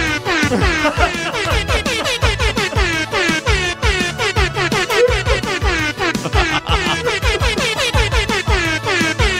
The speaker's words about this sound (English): However, I was impressed with this, but not as impressed as the guy who took the original song and added an air horn. I think it really makes the song.